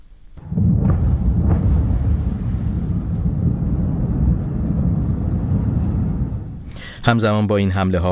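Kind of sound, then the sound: impact, explosions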